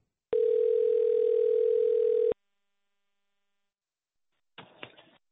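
A steady, loud telephone dial tone holds for about two seconds while calling someone back after hanging up on Discord, then cuts off; after a pause, a brief burst of muffled line noise with a faint click follows.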